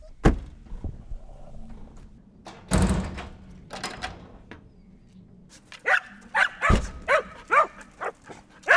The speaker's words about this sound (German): Die Hunde wissen, dass es rausgeht. Die Hunde wissen, dass es rausgeht. Man hört es.